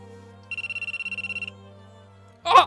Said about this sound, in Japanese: すいません、電話ちょっと失礼します。もしもし。